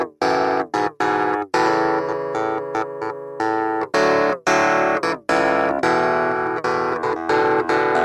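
A loud electronic chord progression from a remixed electronic summer track, played with heavily processed, distorted synth tones. Choppy chord stabs separated by short silent gaps give way to longer sustained chords, with no voices.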